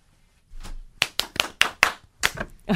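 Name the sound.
hand clapping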